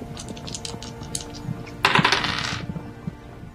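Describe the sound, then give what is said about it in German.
Dice clatter across a hard surface, rolled for a perception check in a tabletop role-playing game: a few light taps, then a bright rattling tumble lasting about a second that settles quickly. The sound is moderately loud, with no talking. “Würfel bitte auf Wahrnehmung um 20 erleichtern.”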